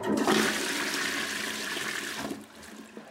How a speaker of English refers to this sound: That was the Noomi Black. Kohler's most revolutionary toilet features rump and feet warmers and niftily folds into a conspicuous little box after use, so your toilet doesn't have to look like a toilet.